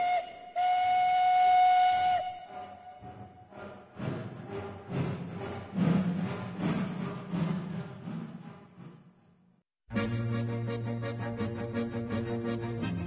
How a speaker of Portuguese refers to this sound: Por lo tanto, les invito a que suban a este tren, el primero de la temporada, pero venga, que nos vamos, que nos están dando ya las señales de salida. ¡Atención, pasajeros! ¡El comboio va a partir!